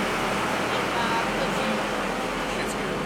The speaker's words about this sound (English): There's a lot of background noise because that was a tractor.